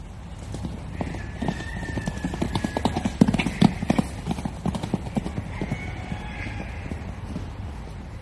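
Wild horses at Kaapsehoop clip-clop their hooves in a steady, uneven rhythm, with faint whinnies rising briefly in the background over a low rumbling ambience.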